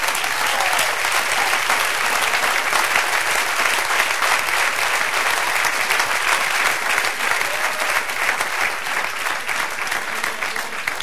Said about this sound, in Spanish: Sí, dale el aplauso.